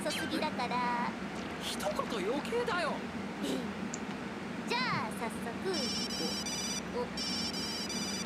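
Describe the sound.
A telephone called banana phone rings in an anime, in rapid, high-pitched electronic trills, two bursts near the end, after a stretch of busy chirping voices and sound effects that continue faintly beneath the ring.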